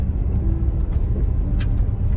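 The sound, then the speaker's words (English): A truck rumbles steadily along a dirt road, its deep engine drone and rough tire noise filling the short stretch continuously with a faint brief rattle partway through, no voices present. “Definitely driving a truck.”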